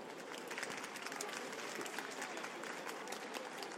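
An audience claps steadily, a dense wash of overlapping handclaps holding an even level for several seconds without a break.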